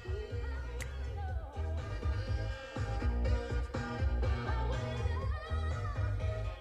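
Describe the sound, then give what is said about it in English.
Saxophone music plays steadily at a moderate level, with a thumping bass line and backing band filling out the sound, and no one talking over it. “Love that sax.”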